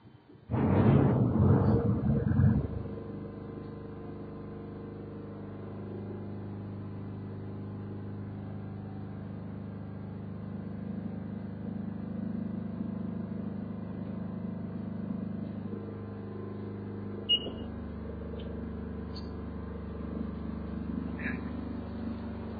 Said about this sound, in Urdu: generator چلا دو